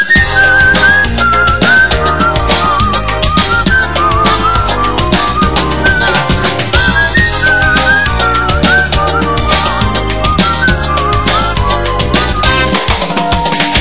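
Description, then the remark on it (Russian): A cheerful Baku-style whistled melody carries a bouncy tune over a loud, full band accompaniment with steady drums and bass, continuing throughout without any talking. “Но не забыл Баку родной и мой веселый бакинский свист.”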